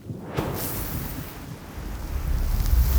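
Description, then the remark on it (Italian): A broad, roaring wash of ocean surf at night swells and builds, growing louder toward the end like a large wave rolling in, with wind-like rumble and no voices. “Un'onda che arriva, gigante, no?”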